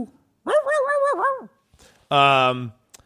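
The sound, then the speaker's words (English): A Pekingese dog lets out two drawn-out cries: first a wavering, whining howl lasting about a second, then after a short pause a louder, harsher, sustained bark. “But, Pekingese, I choose you!”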